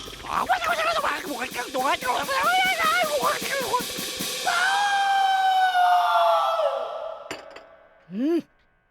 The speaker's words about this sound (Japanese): お嬢様、絹を裂くような女の悲鳴が。